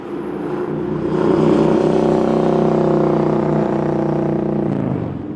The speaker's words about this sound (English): The street conversations of often maligned partygoers pale in comparison to the ear assault of a mufferless motorcycle.